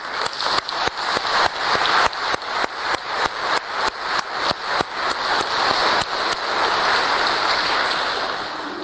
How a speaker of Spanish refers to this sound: Y él es un nuevo santo. Un aplauso, ¿no?